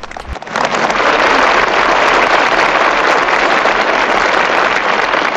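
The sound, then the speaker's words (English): A large crowd of kids and audience members at a graduation breaks into loud, sustained applause, a dense wash of many hands clapping steadily that starts abruptly after a brief pause and holds at full volume throughout. “The kids clap. The audience applaud at graduation.”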